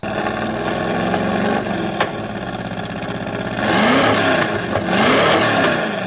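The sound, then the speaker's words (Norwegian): A Ford GT40 race car engine growls at a steady idle, then revs up hard twice in rising, roaring bursts, loud, with no one talking. “Og vi begynner da med Ford GT40”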